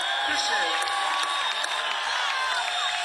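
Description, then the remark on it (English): A large live concert crowd in San Diego cheers steadily at night, a dense wash of voices with scattered whoops and shouts rising above it, loud and continuous from start to finish. “We got a beautiful crowd. We love y'all. Thank you.”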